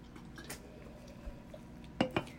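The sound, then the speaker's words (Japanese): Two bright glassy clinks in quick succession as glasses are touched together in a toast ("kanpai"), ringing briefly over a low background hum with faint earlier clatter. “イエーイ、 イエーイ、 乾杯。 乾杯。”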